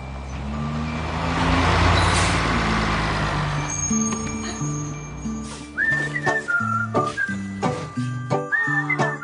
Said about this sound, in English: Trash Truck is a Netflix show about the adventures of a six-year-old boy named Hank and his best friend, Trash Truck. A honking, snorting, yep, trash truck.